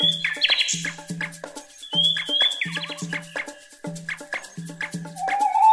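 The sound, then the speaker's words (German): A nightingale sings, pouring out a rich, varied song of whistles, rapid trills and repeated clicking notes, loud and continuous with no talking. “Nachtigallen sind klassische Unterholzvögel.”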